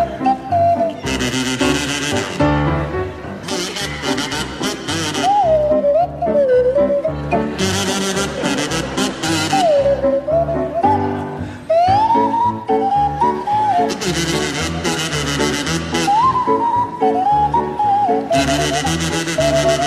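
A kazoo played by Barry Cryer and a swanee whistle played by Graham Garden play a jaunty tune together, the whistle sliding up and down in pitch over a full, busy accompaniment, loud and continuous throughout.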